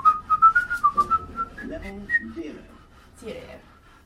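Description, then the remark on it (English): A phone's Twitter notification sounds off with a quick run of bright, bird-like chirps, about ten short high tweets in a steady rhythm, followed by people talking. “It's my phone. Making funny noises. Birdie noises. No, it's Twitter, you see?”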